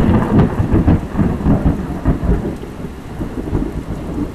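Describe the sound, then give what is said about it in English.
Deep thunder rumbles continuously through a thunderstorm due east on a very hot day, a loud low roll with a few sharper cracks, while steady rain patters underneath. “So this is the third thunderstorm podcast. Oh, there's another one.”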